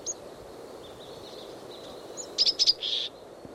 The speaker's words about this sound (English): It's hopping from dead branch to dead branch over the ground, making several looks for perch. Those call notes are given while perched, not while moving.